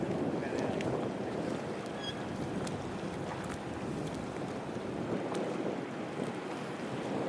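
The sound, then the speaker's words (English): Steady outdoor ambience at a marina with continuous wind rumble and lapping water, boat sounds blending in, and faint scattered clicks and high tonal chirps over a constant, fairly loud wash. “Another bit of the marina.”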